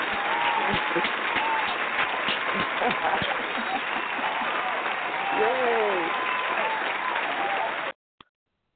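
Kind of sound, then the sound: crowd, audience applause and clapping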